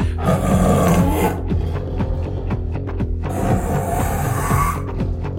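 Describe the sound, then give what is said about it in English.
A man's voice imitates a tiger roar, a loud, sustained, gravelly growl, rising into two long bursts separated by a short rumbling stretch. “We would like for you to be a tiger.”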